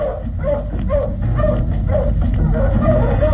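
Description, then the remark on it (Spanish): Wolves bark and yelp in a quick, overlapping series of short calls, about a dozen in a few seconds, over a steady low rumble, as they follow fugitives' tracks by scent across moors and marshes. “Los ladridos y aullidos de los lobos van perdiéndose en la soledad de los páramos y de los pantanos.”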